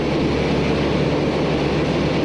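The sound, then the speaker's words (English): The light, uninsulated carbon fiber propeller plane Voyager rumbles heavily down a long runway at the start of a round-the-world flight attempt, its engine noise a loud, steady low drone with a rough, grinding texture that holds constant throughout, with no voices. “The Voyager begins to lumber down the long runway.”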